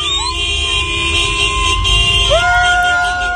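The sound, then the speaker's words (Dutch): Several car horns honk at once in a loud, unbroken chorus as people drive through the streets of Harare, Zimbabwe, waving flags to celebrate Mugabe's resignation, their overlapping tones shifting in pitch over a low rumble of street traffic and crowd noise. “Mensen rijden er toeterend door de straten en zwaaien met vlaggen.”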